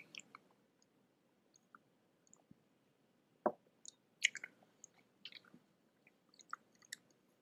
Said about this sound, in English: Take a sip here.